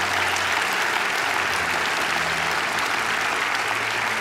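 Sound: audience cheering and applauding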